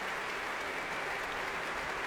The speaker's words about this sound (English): 20 seconds of indecision, a sort of spiritual shadow that was broken by the first beginnings of the round of applause.